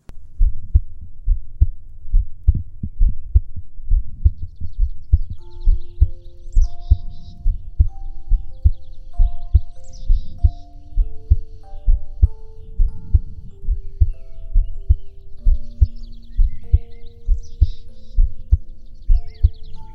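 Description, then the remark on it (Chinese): A person's steady heartbeat, listened to as by a doctor, thumps in a regular rhythm throughout, with soft sustained tones and faint high chirps drifting quietly above it. “就像这样，要不要再重新听一下我的心跳呢？”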